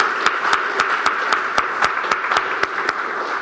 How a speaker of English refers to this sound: Can we get another round of applause?